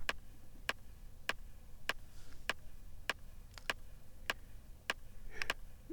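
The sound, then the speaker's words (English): Steady clock ticking, sharp crisp clicks about every 0.6 seconds with a couple of extra ticks near the end, over a faint low background hum, with no voices. “So we're gonna undo this, we're gonna undo the clocky clock thing, and we're just gonna plug this into here.”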